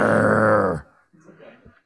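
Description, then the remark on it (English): A person growls like a dog in one loud, rough, low-pitched burst lasting under a second, followed by faint murmuring voices. “You're supposed to growl.”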